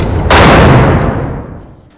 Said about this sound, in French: La professeure sort de la salle en claquant la porte.